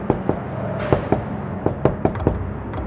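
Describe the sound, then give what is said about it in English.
A patterned knock on a door: sharp raps in uneven pairs and clusters, about eight in all, spaced across a few seconds with no voices. “thought the coded knock was ridiculous.”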